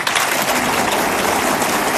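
A crowd applauds a guitarist at a live concert recorded in Plougastel. Dense, overlapping clapping forms a continuous bright wash of sound at an even loudness throughout, with no voices standing out.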